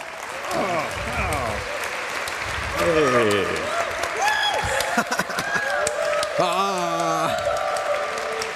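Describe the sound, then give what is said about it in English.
Steady applause from a large audience welcoming speakers from the Munich CCC Hackerspace to their talk on Bluetooth lockpicking of hotels, dense clapping running throughout with scattered cheers and voices rising over it. “So give a big round of applause”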